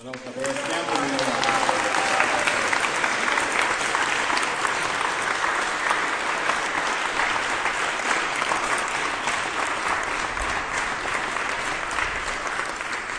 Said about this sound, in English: That's Nityananda Charan. He's a valuable jewel on this festival program. You can give him applause.